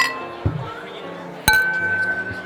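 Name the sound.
glasses clinking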